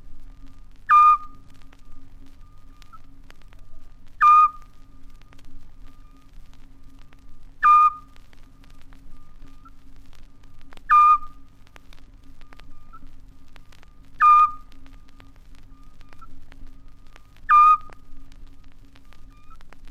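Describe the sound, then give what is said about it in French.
A Eurasian scops owl, calling among rocks, gives six short, clear whistled notes, evenly spaced about three seconds apart, each one a single soft piping hoot over a faint steady background hum. “Et la voix du hibou petit duc ne résonne-t-elle pas merveilleusement au milieu des rochers ?”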